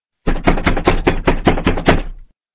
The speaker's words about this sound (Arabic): افتح يا بنيامين يا حبيبي، الباب بيخبط شوف مين